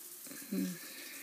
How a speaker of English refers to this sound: Quietly take off my bra and panties and slip into the shower.